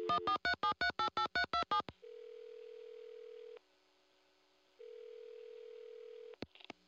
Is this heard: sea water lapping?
no